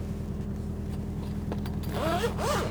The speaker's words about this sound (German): Ich mache mal kurz meine Schublade auf und guck mal in die Papiere rein. Entschuldige die störenden Nebengeräusche.